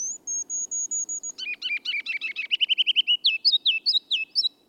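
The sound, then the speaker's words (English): A ruby-crowned kinglet sings its spring song: thin high introductory notes, then a rapid tumbling series of chattering phrases ending in loud rolling, bouncing triplets, clear with no talking. “The ruby-crowned kinglet tunes up his spring song only in the lowlands.”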